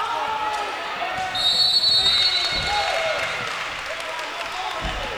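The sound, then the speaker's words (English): A referee's whistle shrills once, a sustained piercing blast lasting about a second, called for a turnover at a basketball game involving the Oilers, rising above the steady murmur of an indoor arena crowd with a ball thumping on the court. “And he's whistled for the turnover.”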